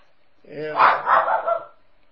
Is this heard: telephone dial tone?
no